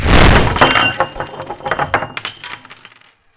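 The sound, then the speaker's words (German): A loud, booming explosion effect depicting a body exploding bursts out at once, then breaks into a scatter of clinking, tinkling debris like shattered glass and metal, thinning out and ending after about three seconds. “Nach der Explosion war nur noch der Kopf übrig.”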